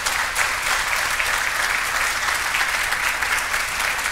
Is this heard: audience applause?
yes